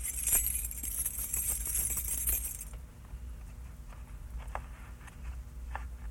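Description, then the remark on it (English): A bunch of keys being handed over jangles in a bright, continuous metallic jingle for a couple of seconds, then settles into a few faint, scattered clinks. “Keys. Thank you.”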